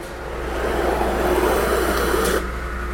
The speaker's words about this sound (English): who was using a machine called a water jet cutter.